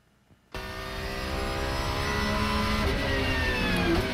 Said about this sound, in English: basically, again, this is Team Seattle out doing testing at Sebring International Raceway in Florida. And this is a badass car.